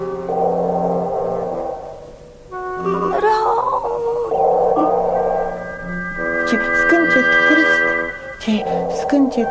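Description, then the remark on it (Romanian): A young female tiger cub with its tail tangled in jungle undergrowth whimpers in a series of drawn-out, wavering whines and mewling cries that rise and fall in pitch, fairly loud and continuous, with no talking. “Ce scâncet trist, ce scâncet sfâșietor.”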